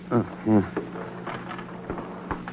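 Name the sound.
elevator door opening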